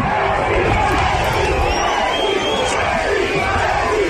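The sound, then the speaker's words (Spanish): A large crowd of football fans of the Argentina national team, in Mallorca, shouts and yells together hoping to see Leo Messi, in a loud, continuous roar that holds steady for several seconds, with raised voices blending into a dense wall of noise. “Una auténtica pasión de aficionados argentinos por su albiceleste y de no argentinos también, de gente que quería ver de cerca a la selección argentina, especialmente, obviamente, a Leo Messi.”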